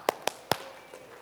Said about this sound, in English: So let's try it. Give this chair an applause. Come on, come on, come on.